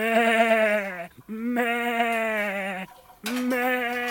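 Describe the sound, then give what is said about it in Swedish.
Three long, wavering sheep bleats, loud, each lasting about a second with brief pauses between them and no talking, from sheep on a farm about to be given hay. “Fåren ska hö.”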